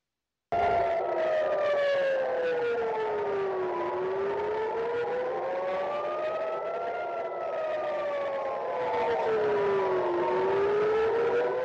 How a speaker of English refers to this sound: Israel is being pounded by Iran, sirens sounding over Tel Aviv as a barrage of missiles hit the nation.